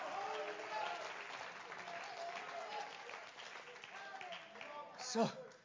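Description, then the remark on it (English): A church audience applauds to thank the Lord during a sermon, in a steady, dense wash of hand clapping that carries on throughout, mixed with scattered voices and a brief louder shout or whoop near the end. “Clap your hands and thank the Lord that he's given you the strength to endure to come under the load.”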